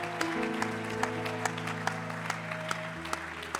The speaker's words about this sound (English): Come on, somebody clap your hands and give God a shout of praise. Alguien aplaude sus manos y levante su voz.